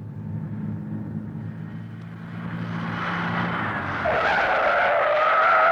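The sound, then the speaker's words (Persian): A truck's low engine rumble gives way to a loud, rising tire screech as it skids hard to a stop, growing louder toward the end, with no voices. “عیبی نداره، بهتر شما همینجا قایم شید، تا کامیون رسید من میپرم جلوش، تا بایستد شما ها سوار شید.”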